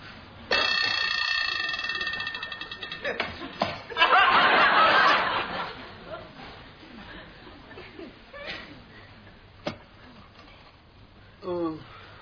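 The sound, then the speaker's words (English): A shrill, steady alarm clock rings loudly for a couple of seconds at 2 o'clock in the afternoon, then cuts off into a burst of rustling noise, followed by scattered chuckles and muffled voices. “Lucky I didn't sleep through the alarm or we'd have missed half the day.”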